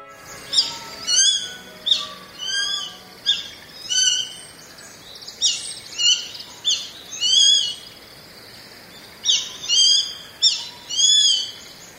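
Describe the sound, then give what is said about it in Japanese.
A grey-faced buzzard, a hawk flying out of woodland by valley rice paddies in Japanese satoyama countryside, gives a series of about a dozen high-pitched, piercing calls in a steady rhythm, clear over a quiet outdoor background. “金味と聞こえる高い声、サシバです。”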